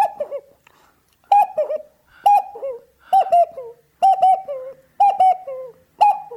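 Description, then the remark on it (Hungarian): A voice imitates an owl or cuckoo call as a sound effect: seven loud bursts of warbling hoots repeated roughly once per second, with no talking. “Lehet az egy szabadalmam, az a bagoly, vagy kakuk, vagy valami hasonló hang, ez a...”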